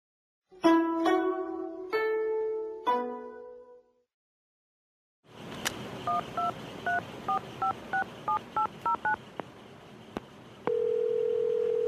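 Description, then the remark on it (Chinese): A phone call being placed by the character Lao Wang to Xiao Zhao, who is riding in a car to the airport: a few short electronic tones, then a quick run of about a dozen touch-tone dialing beeps over a faint hiss, ending in a steady, sustained ringing tone. “然后老王打电话给那个小赵是吧？”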